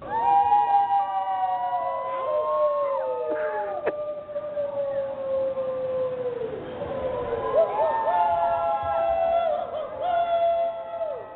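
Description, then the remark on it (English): Many residents of Manitou, Southern Colorado, out howling together at 8 o'clock at night to show support for neighbors and first responders, in overlapping, sustained wavering tones that rise and fall, forming a loud, continuous chorus of wolf-like calls throughout. “A lot of howling there.”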